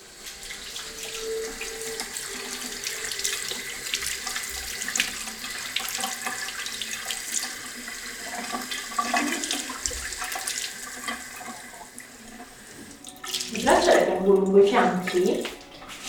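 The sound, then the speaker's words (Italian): Running water rinses off a body scrub made of sugar, oil and local honey during a massage treatment, a steady hissing flow that swells into louder, splashier gushing near the end, with faint voices murmuring underneath. “Adesso togliamo lo scrub con l'acqua.”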